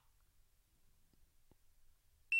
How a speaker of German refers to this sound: Ja, und jetzt habt ihr sogar gehört, dieses Gerät macht einen Piepton, wenn man es einschaltet. Wunderbar.